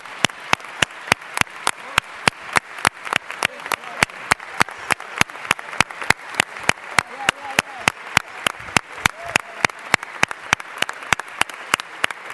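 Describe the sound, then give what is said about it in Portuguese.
A crowd applauds steadily for about twelve seconds for their President of the Bureau, a deputy elected for Aveiro, with sharp, evenly spaced claps cutting through a dense wash of clapping, faint murmuring voices underneath. “pedia só porque realmente para nós é um orgulho termos o Presidente da Mesa, um deputado eleito por Aveiro, e pedir um aplauso para o nosso Presidente.”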